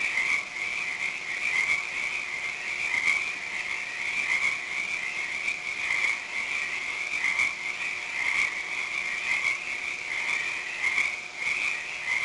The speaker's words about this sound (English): Are the frogs still riveting?